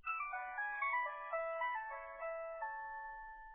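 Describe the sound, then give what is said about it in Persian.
A bright electronic melody plays alone, a looping chime-like ringback tune heard while making an outgoing phone call to a mother, with clear tonal notes in a steady rhythm, moderately loud, with no voices. “با مادرم تلفن کنم که برش بگویم میرم پیش محبوبا و بعد میرم خانه”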